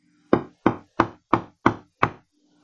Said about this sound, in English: Next morning, when she was up, had prayed to God, and talked with her children a while, one knocked hard at the door.